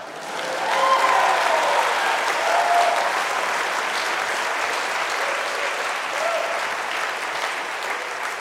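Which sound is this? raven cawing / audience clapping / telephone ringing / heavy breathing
audience clapping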